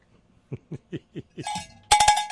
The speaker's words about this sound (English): That beep sounds an awful lot like the beep my UPS unit makes. Oh, please, Jesus, no.